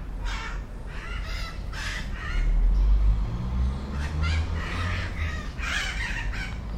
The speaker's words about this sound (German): Nicht überall in Georgetown geht es hektisch zu. Es gibt grüne Oasen. In der Nähe eines Parks flattern Papageien umher.